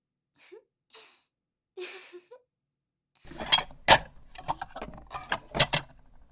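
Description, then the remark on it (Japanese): A few faint soft sounds, then a burst of wet, bubbly swishing with sharp splashy spurts as water is gargled and spat out to rinse the mouth after tooth brushing, loud and uneven with no talking. “さあうがいしましょう。ぐちゅぐちゅぺってしてください。”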